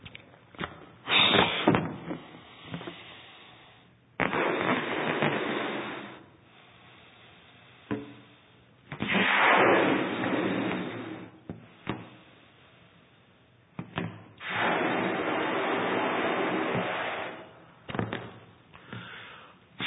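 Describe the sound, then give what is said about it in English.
A balloon is inflated by mouth in several long, breathy puffs, each a rushing burst of air lasting a couple of seconds, separated by short pauses and small squeaky handling noises. “And we, like the Spirit is a breath, I'll just blow this up just to help us have a picture, an image in our mind of and illustrations break down, so please bear with me.”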